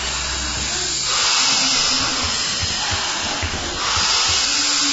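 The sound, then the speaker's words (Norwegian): A long, steady hissing exhale of breath during a guided breathing exercise, a broad airy rush that swells slightly in the middle and runs on for several seconds, with a faint low murmur underneath. “Bare pust, fortsatt å pust.”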